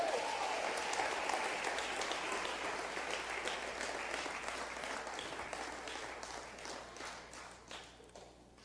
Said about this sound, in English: Come on, give the Lord a great big hand clap.